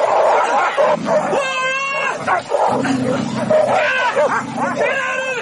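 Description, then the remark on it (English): Two dogs snarling and fighting while attacking a man, one hanging on his arm and the other snapping at his thigh: loud, continuous throaty growls tangled with sharp high-pitched yelps and whines, chaotic and unbroken throughout. “With one dog hanging on his arm and the other one snapping at his thigh.”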